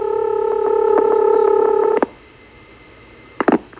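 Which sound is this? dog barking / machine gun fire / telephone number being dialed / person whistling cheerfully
telephone number being dialed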